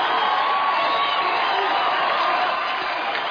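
A large boxing arena crowd roars and cheers continuously as Apollo Creed is in the ring, a dense steady wall of voices with scattered whoops rising out of it, loud throughout with no pauses.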